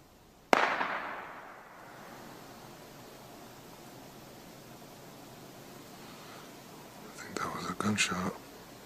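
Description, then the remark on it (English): A single sharp gunshot fired into the woods cracks out early, its echo trailing off over about a second, followed by a steady low hiss and faint murmuring voices near the end. “Somebody just shot over into the woods.”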